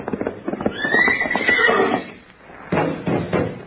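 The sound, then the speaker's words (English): A horse lets out a loud, close whinny lasting about a second, its wavering cry rising and falling, surrounded by rapid hoof clatter and scuffling before and after. “Hey, that's a nice horse you got there, Wonderful.”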